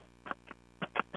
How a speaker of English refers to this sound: For the duck, it's an empty soap dispenser pump.